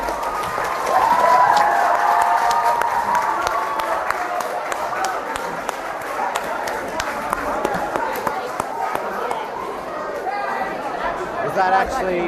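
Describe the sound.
An audience clapping in a steady, dense patter of many hands, with crowd chatter and voices murmuring underneath throughout, holding at a fairly even loudness.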